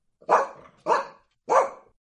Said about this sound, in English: Let's say you walk past an angry dog. What sound does the dog make?